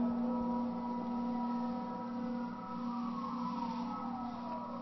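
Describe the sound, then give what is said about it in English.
A steady, low oscillating tone, a drifting sine signal picked up by a sensitive diaphragm microphone, sits half-buried in a continuous wash of noise from the building and boiling, holding an even level throughout, with a faint gliding pitch that slowly falls toward the end. “But then your ear is going to hear an oscillation back in there, I hope.”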